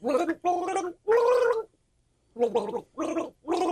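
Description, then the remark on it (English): A person gargles water in short, melodic bursts, bubbling out a tune in several phrases separated by brief pauses, fairly loud. “Why would you have to read the lyrics if you're gargling?”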